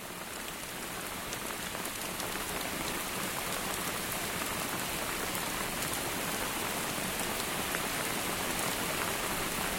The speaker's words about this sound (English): The rain, of course, is the constant sound. It just keeps coming.